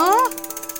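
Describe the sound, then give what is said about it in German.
A Glücksrad prize wheel, spun by Fiete the studio dog to pick a new contestant child, spins with a bright rising whir at first, then settles into a steady run of small clicks ticking by at an even, quick rhythm. “Fiete, dreh doch noch mal schnell am Glücksrad für mich.”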